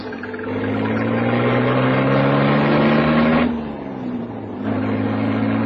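A car engine hums steadily with a low, droning tone, briefly dropping in pitch and loudness as if shifting gear, then picking up again as the car drives on. No voices.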